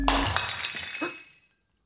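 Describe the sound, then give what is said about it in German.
A small porcelain figurine hits the floor and shatters: a sharp crack followed by bright tinkling shards scattering and settling over about a second and a half, with no one speaking. “Ich werf immer alles. Bloß eine kleine Porzellanfigur. Runter.”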